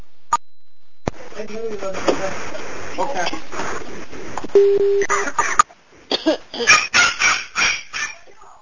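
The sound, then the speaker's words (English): A dog barks in a quick series of sharp, loud bursts near the end, following a stretch of muffled noise with voices and a brief electronic tone. “And I can't interpret the dog language, but it sounded like I'm not sure what that meant, actually.”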